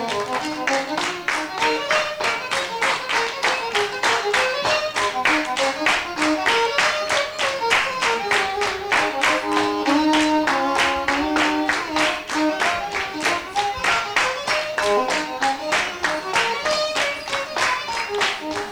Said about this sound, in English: Now clap your little rhythm.